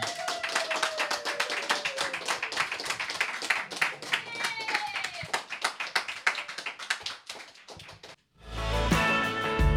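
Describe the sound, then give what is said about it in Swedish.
An audience claps steadily for about eight seconds to mark the 8th anniversary of Lunds fontänhus, a dense patter of many hands with a few faint whistles. The applause then cuts off and a louder voice-like sound takes over. “Men en applåd till, för idag fyller Lunds fontänhus 8 år.”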